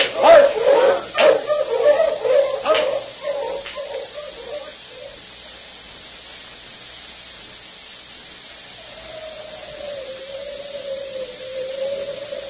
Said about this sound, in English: Bitter cold, and there's a high wind blowing.